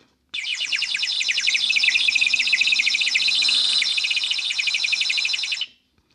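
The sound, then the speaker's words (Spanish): A frog sings a high, shrill chirping trill of rapid pulses, steady and unbroken for about five seconds, fairly loud, with no voices present. “La rana empieza a cantar y es su canto alado y chirriante, zumbante, constante, un canto finito como el de un pajarito.”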